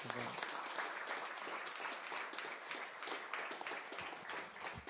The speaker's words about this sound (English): Thank you very much, Radhanath Swami. A big round of applause.